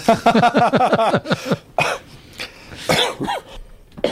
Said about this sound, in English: As you can hear, I've got a dicky throat, but we won't let that go through. I thought it was a cough myself.